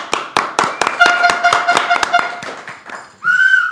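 Steady, rhythmic hand claps ring out, joined midway by shrill whistling; the clapping thins out and ends in a loud, sustained high whistle.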